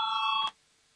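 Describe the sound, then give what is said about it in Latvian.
A parliamentary voting bell, called for before a vote on proposal number 94, rings with a steady, loud electronic tone for about half a second, then cuts off abruptly into near silence. No one speaks. “Lūdzu zvanu, balsosim par 94.”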